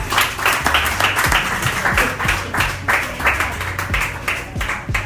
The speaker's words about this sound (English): Keep clapping.